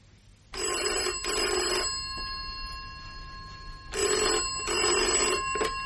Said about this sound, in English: Suddenly, in the flat, the phone rings.